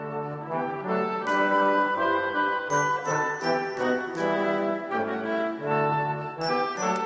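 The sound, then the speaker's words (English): A festive Christmas-themed radio jingle plays on Premier Christian Radio, with bright tinkling bells ringing over a full, steady instrumental backing. The music is fairly loud, with no voices. “So, with a Christmas theme ringing in our ears, let's look at the Christmas stories.”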